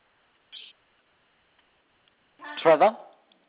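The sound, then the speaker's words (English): A short, harsh bird squawk rings out after a brief hiss and near silence, a single raspy call lasting about half a second. “Eyes eating, drinking, still squawking, so.”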